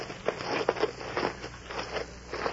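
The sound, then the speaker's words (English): A still-flickering campfire crackles softly and steadily, with irregular small pops and snaps and a faint hiss underneath. No voices are heard. “cautiously approached the still flickering campfire.”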